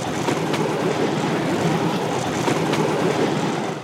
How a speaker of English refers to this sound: I was headed to interview an expert who I hope can give me more information on the supernatural artifact that could be hiding in the ruins, when suddenly I encounter an oncoming train. Uh-oh, we're gonna die.